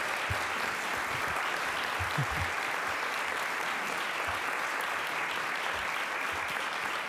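Sustained applause from an audience, a dense, steady wash of many hands clapping at even loudness for several seconds, with no voices standing out.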